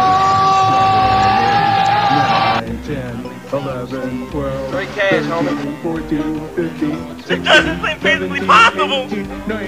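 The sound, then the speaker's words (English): A crowd reacts with a steady wash of cheering, yelling and whoops as a big player starts serving and the serves are counted up, voices rising and falling in loud bursts, with a sustained tonal hum under the first couple of seconds. “It looks like the big guy is about to start serving, so let's listen in to some crowd reaction as we start counting them up.”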